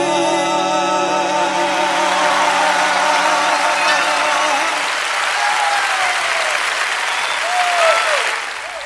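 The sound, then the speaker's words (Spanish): A sustained note of music rings out and fades into a loud wash of applause from a crowd at a programme, with scattered whistles or cheers rising over the clapping near the end. “Estos aplausos son para”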